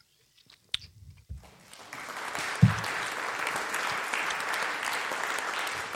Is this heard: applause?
yes